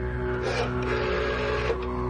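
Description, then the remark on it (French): A telephone line ringing as a call is placed to someone's home, heard as a steady electronic tone over a faint hiss. It holds continuously at an even level, with no one speaking. “Ça sonne, il va répondre. Ça sonne chez lui là-bas, oui.”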